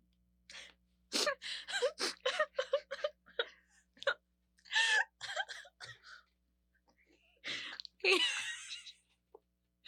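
Exaggerated fake crying: a string of choppy, breathy sobs, gasps and sniffles in uneven bursts, with short pauses between, ending in a longer wailing sob.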